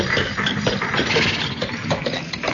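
A police squad car engine runs steadily with a low, continuous rumble and a broad mid-range hum, holding a constant level throughout with no voices over it.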